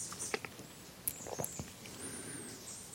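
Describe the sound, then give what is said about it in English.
Soft, steady rain with scattered drops pattering and ticking, a faint continuous hiss underneath and no one speaking. “And John Fuang's phrase, when it's raining like this, the body may be wet, but the mind doesn't have to be wet.”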